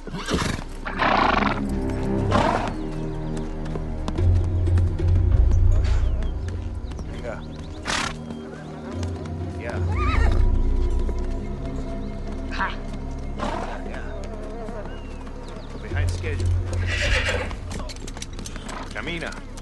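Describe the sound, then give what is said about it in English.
Horses plod with steady clip-clopping hooves through a foggy forest in Tierra del Fuego, one led by a man on foot and another ridden behind, while several loud, drawn-out whinnies rise over a low rumbling background, the neighs coming in bursts every few seconds. “A man in a red poncho leads a little man on a horse through the foggy forest floor.”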